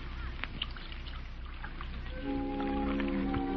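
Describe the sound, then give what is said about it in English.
A woman pours tea steadily into a cup, a soft splashing trickle whose tone rises as the cup fills over the final second or so. No one speaks. “You know, there's something about a woman pouring tea.”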